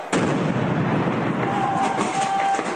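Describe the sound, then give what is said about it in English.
Loud, continuous roar of heavy gunfire and explosions reverberating through the streets of a civilian housing area in the Al-Khalidiyah district during an intense offensive, a dense rumbling barrage with rapid cracks blurred together and no pauses, with no one speaking. “The streets reverberating to the sounds of explosions and gunfire.”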